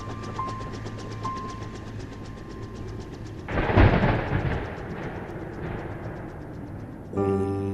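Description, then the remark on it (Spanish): A deep rumble swells up suddenly partway through, rolling and crackling like thunder, then fades back into a steady, droning background with no voices. “Trueno azul, brillo en el cielo.”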